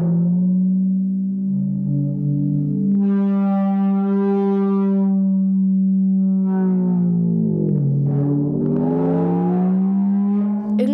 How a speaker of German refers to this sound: an manchen Stellen wie so ein Motorrad. Ja. Losfährt. Oder wie so ein Schiff, was so quietscht. Ja. Interessant. Flummi und Pauke. Also das heißt, ein Flummi wird auf eine Stricknadel gespießt und über die Pauke so gerieben.